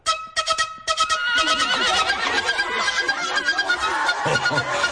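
Several horses whinny and neigh loudly as they dance to a whistle, over a busy, continuous commotion, with quick sharp bursts at the start and a dense wash of noise that may include hooves.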